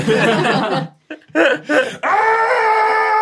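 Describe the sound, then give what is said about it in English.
A person lets out a loud, panicked scream: a few broken, strained vocal bursts, then a long, sustained high-pitched wail held steadily to the end. “I immediately scream.”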